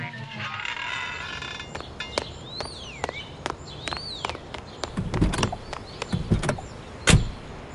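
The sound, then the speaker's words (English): Shuffling, clicks and thumps as someone climbs into a car, ending with a solid door slam near the end, while faint chirps sound in the background. “Well, hurry up and get in the car.”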